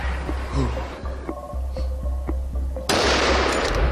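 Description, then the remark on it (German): Several sharp rifle shots crack in quick, uneven succession over a low, steady hum during a driven hunt, as a young wild boar is shot and tumbles; a burst of loud rushing noise follows toward the end. “Und jetzt kam hier der Überläufer Keiler. Und er hat sich sogar im Schuss überschlagen.”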